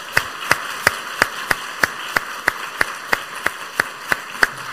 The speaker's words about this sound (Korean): 자, 이제 차렷 경례합니다. 여러분 큰 박수로 축하해 주시기 바랍니다.